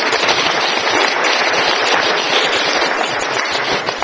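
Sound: audience applause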